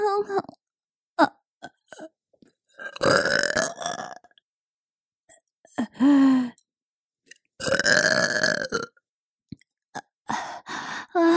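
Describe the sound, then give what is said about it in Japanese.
Several loud burps, two of them long and drawn-out, separated by short gulps, breaths and brief vocal noises. “ゲップセックス感じちゃう。”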